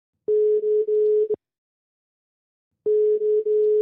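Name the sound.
phone ringing tone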